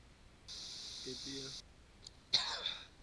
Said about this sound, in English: this cough is annoying.